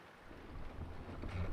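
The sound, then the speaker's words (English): A jib sail flaps and rustles in steady wind aboard a sailing boat, a continuous gusty whoosh with a low rumble that swells slightly toward the end. No one speaks. “I think I need to sheet in the jib.”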